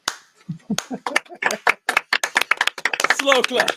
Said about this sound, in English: slow clap, everybody, welcome strangers to the show.